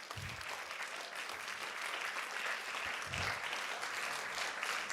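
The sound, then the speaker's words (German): Steady audience applause for the theatre team fills the whole stretch, a dense crackle of many hands clapping at once, sustained and fairly loud with no pauses or voices. “Komm, ich gebe mal noch einen Applaus dem Theaterteam.”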